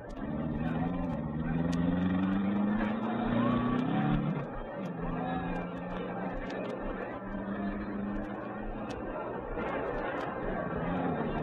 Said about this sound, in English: The cars were being driven slowly into their starting positions along the track.